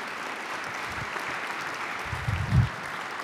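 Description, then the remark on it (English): An audience in a church sanctuary in Duluth applauds steadily to welcome a guest, a dense wash of many hands clapping at an even level, with a couple of low thumps near the end as the clapping carries on. “give him a round of applause as we welcome him.”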